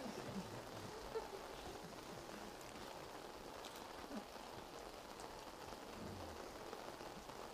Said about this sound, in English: No, I'm very happy today because it's raining.